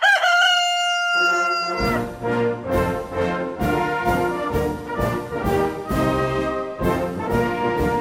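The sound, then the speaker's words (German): A rooster crows once, loud, a drawn-out cock-a-doodle-doo lasting under two seconds, before rhythmic, percussive music bursts in and carries on to the end. “Als der Hahn das hörte, trug er den Kamm gleich etwas höher und erinnerte die anderen an einen rebellischen Urahn, den gallischen Hahn.”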